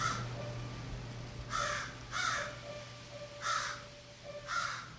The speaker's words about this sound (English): It's crow. C'est un corbeau, c'est pas une corneille.